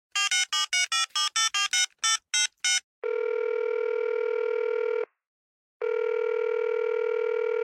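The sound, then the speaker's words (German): A quick run of about ten touch-tone dialing beeps as an outgoing telephone call is placed, then a steady telephone ringback tone that sounds for two seconds, pauses briefly, and starts again. Clear, with no voices. “Na, dann gehe ich gleich mal hier ins Telefon.”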